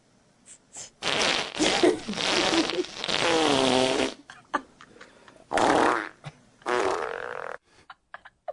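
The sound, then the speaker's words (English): A string of loud fart sound effects, not made by a real person, with several sputtering bursts of varying length, some long and rumbling, others short pops, with brief gaps between them and no talking. “You know, they're just fart sound effects.”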